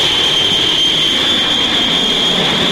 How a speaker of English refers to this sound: In a jet, slicing through the sky, the Lord is my shepherd.